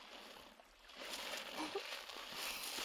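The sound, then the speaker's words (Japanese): A steady, soft frothy swishing of liquid being whisked, a continuous airy slosh with no pauses, fairly quiet and close, swelling slightly louder after the first second. “いい泡立ちなのです。”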